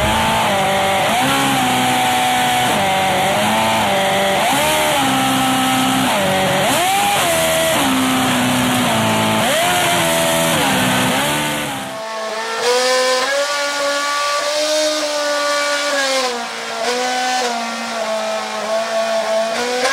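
A revving engine swoops up and down in clear tonal pitches, its strong harmonics tracing a rough melody; midway the sound shifts to a thinner, higher-pitched engine continuing the tune, loud.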